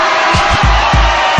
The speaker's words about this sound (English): It's getting hot. Ladies be sweating. Let me hear the ladies scream.